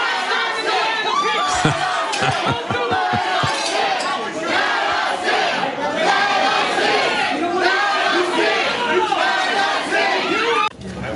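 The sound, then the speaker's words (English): A dense, loud crowd shouts and yells continuously as people struggle at a glass door, pulling at it from both sides until it shatters to pieces, with a quick run of about seven heavy banging thuds near the start. “Look at this struggle for the door, glass door. People are pulling out both sides, shatter it to pieces.”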